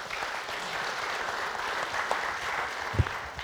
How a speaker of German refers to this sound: Auch ein Applaus für Frau Stückrath, bitte.